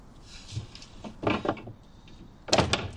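A door opens and shuts: a few scraping, knocking bursts building to a louder clunk near the end, with no one speaking.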